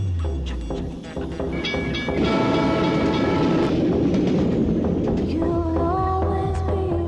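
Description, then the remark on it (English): A train rumbles loudly along the tracks, steady clacking over the rails mixed with metallic squeals and high whining tones as it moves through a station, with no one speaking. “Okay, these two young girls, you know, sitting at a railway station”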